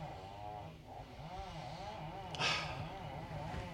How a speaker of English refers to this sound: God damn you, fucking chainsaw man.